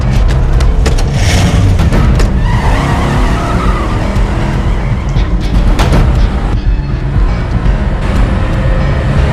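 A car speeds hard with a loud, roaring engine and screeching, skidding tires, dense throughout, with sharp bursts of squeal and rumble and no talking.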